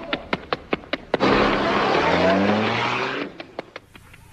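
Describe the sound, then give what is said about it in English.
A few sharp clicks, then a car engine roars and revs up as it pulls away with a loud, rising whine, fading back into a short series of clicks. No one speaks. “Captain, get in your car and follow me.”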